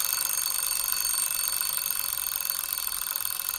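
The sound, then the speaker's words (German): An alarm clock bell rings nonstop, a rapid, shrill metallic clatter that holds steady and loud from start to finish with no voices over it. “Die vielen Stimmen, Kamera und jetzt noch Schellen vom Wecker.”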